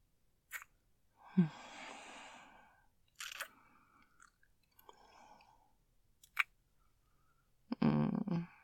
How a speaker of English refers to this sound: Listen to my breathing.